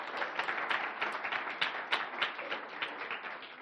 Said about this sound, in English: Come, let's clap our hands to the Lord.